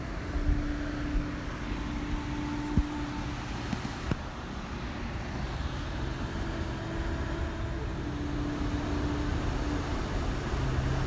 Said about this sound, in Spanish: Y si te ayuda el sonido del océano de fondo, déjate llevar por ese ritmo y esa frecuencia que tiene el sonido de las olas cuando va golpeando hacia la costa.